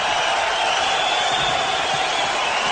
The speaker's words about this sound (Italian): Un applauso.